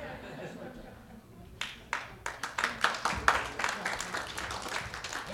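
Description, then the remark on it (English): An audience breaks into applause for a woman who has just given announcements: a few scattered claps at first, quickly building into dense, steady clapping from many hands over a low background murmur. “Yes, clap for her, not for me.”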